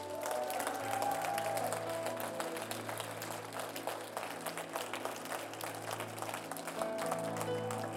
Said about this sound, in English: Let us stand to our feet today. Can we give the Lord a great big hand clap of praise?